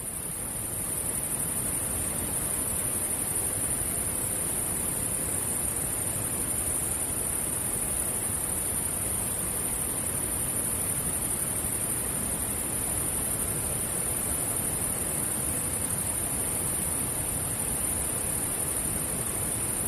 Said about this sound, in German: Und dieses zweite Geräusch, das sind die Grashüpfer, der Klang der Grashüpfer, also ein klassisches Sommergeräusch. Und wenn man die beiden zusammenmischt, dann klingt das Ganze so.